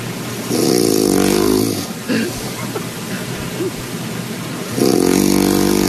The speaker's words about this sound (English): This is another … snore.